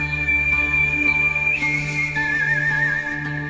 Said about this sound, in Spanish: un artista español famoso por su maravillosa forma de hacer música silbando.